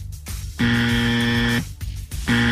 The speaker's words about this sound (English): I'm hitting this buzzer because this can't happen.